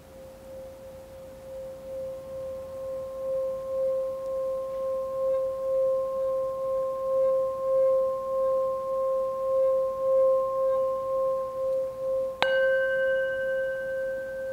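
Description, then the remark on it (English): A bell sounded to close a meditation rings with a steady, sustained mid-pitched hum for about twelve seconds, then a sharp strike near the end adds brighter overtones that shimmer on. No one speaks. “And I'll start to sound the bell.”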